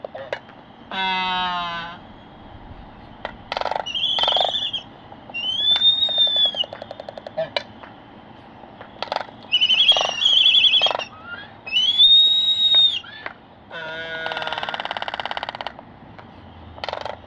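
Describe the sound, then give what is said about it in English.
A pair of Laysan albatrosses on Midway Atoll dance for each other, calling back and forth with rough grunts and rising whistles and bursts of rapid bill-clappering that rattle like fast wooden clicks, with no talking. “They're dancing for each other, grunting and whistling and clappering their bills.”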